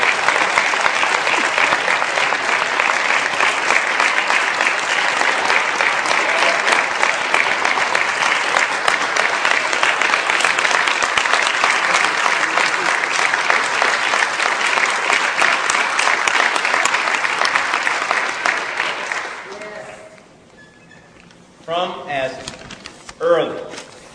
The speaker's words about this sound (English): Give him a big round of applause.